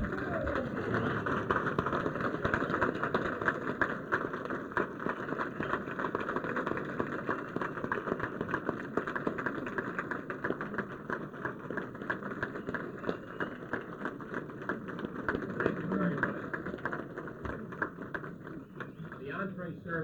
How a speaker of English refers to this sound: But I think at this time a standing round of applause is due indeed for our honored guest, the code talker.